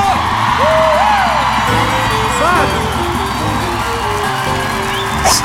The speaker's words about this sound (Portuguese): quem gostou dá um gritinho!